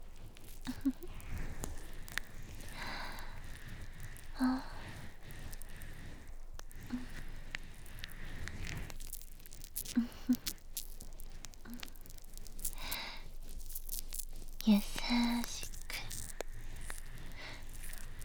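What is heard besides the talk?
fizzing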